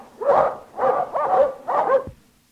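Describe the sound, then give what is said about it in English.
A person imitates a dog barking with four loud woofs in quick succession, the barks evenly spaced and delivered alone without any other talk. “Well, my first imitation is one dog. My second imitation is two dogs.”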